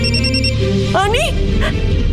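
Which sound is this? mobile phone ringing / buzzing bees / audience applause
mobile phone ringing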